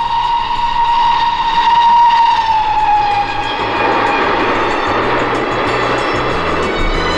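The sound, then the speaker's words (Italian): A loud, sustained steam train whistle blows for a few seconds, then gives way to a hissing rush of steam over the rhythmic rumble and clatter of the train, with no voices. “L'Italia lungo, l'Italia largo, col treno vai e primavera.”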